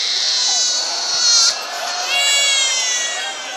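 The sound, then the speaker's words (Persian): Many people crying together, a dense wash of high, wailing sobs that swell and overlap continuously, loud, like an emotional crowd. “قربونت برم، من طاقت ندارم شماها گریه کنی.”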